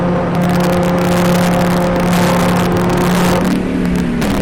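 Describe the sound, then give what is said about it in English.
A steady, loud diesel car engine hum with a low harmonic drone, holding an even pitch before the tone shifts slightly near the end as the car keeps driving on a lap of a track, heading down towards Indianapolis; no voices. “Just listening to the low hum of that diesel as we go down towards Indianapolis here.”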